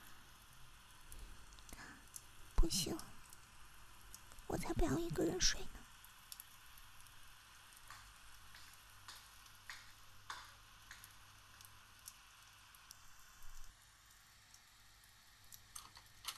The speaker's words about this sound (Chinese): 还在下雨啊，最讨厌下雨天了。